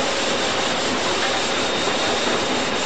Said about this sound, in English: But I see one coming down main now, just past me. Looks like a Class 47 on her. That was a light engine actually, so he just gone past me. Well, I suppose it's a passing speed of about 140 miles an hour.